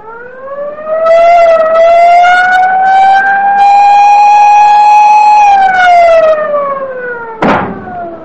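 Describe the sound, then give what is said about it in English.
A loud submarine collision alarm wails steadily for several seconds, its pitch slowly rising and then falling, with a harsh buzzing edge, ending in a sharp clunk, sounded in fog as the submarine dives immediately after a ship appears dead ahead 500 yards away. “Down the collision alarm.”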